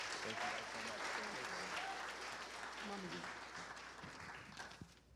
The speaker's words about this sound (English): Give them a round of applause if you would.